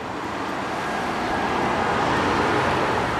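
city street traffic

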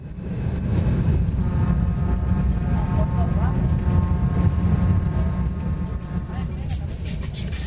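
train running on rails

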